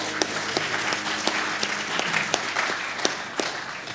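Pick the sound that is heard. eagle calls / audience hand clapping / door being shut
audience hand clapping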